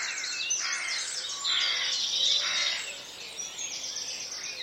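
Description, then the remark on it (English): A dense chorus of birds singing at sunrise, many overlapping high chirps and warbling notes filling the air steadily, swelling briefly louder midway, with no voices present. “You would hear sweet notes rising with the sun to greet the light.”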